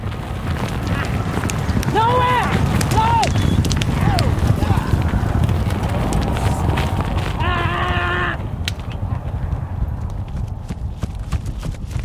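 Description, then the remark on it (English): Rapid, pounding hoofbeats of a galloping Arabian horse, run by a trainer in a circle on a rope and recorded with wireless microphones on its hooves; a dense rumbling rhythm with wind noise, while a couple of brief shouted voices rise above the thunder of hooves. “I recorded an Arabian horse.”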